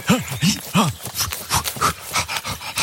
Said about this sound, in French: Qu'est-ce que c'est que ce bruit? Professeur, un papa ours, là, au-dessus de votre épaule.